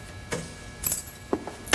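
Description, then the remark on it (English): A short run of jingling keys and clicks, followed by a few soft thumps and a louder clunk at the end as a man gets into his car and pulls the door. No voices. “He gets into his car.”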